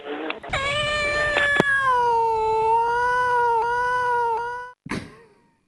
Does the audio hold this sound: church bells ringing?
no